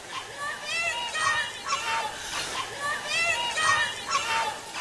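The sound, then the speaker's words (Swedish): A dense crowd murmur with raised, overlapping voices and occasional shouts, swelling in uneven waves, as a Moderate Party election speech is briefly interrupted by four topless Femen activists protesting against Fredrik Reinfeldt. The commotion stays fairly loud throughout with no single clear speaker. “Men då hör man plötsligt sorl och skrik och väsen, och talet avbryts för en kort stund.”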